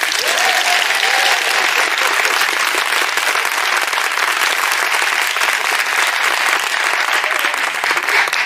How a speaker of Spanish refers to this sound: Temo que os han dado algo para que aplaudáis más.